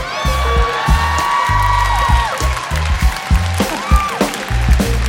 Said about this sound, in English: I've never gotten applause for it before.